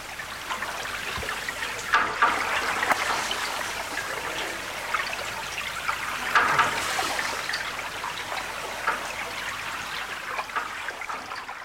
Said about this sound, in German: Wasserklänge aus dem Bodensee im alles andere als leisen öffentlichen Raum von Bregenz eigentlich begrüßt werden sollen.